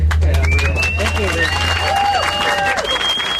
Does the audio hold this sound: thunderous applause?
yes